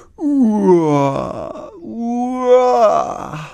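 Two long, drawn-out yawns from Hermann the dinosaur, tired while walking along the Farnhornweg near the Volksparkstadion, follow one another, each a loud, voiced moan that slides down in pitch and trails off into a breathy exhale.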